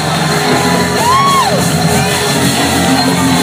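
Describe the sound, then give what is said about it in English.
A large crowd shouts and whoops together with reverberation, one rising, arching whoop cutting above the dense, steady roar of many voices. “Come on, shout. Come on, shout.”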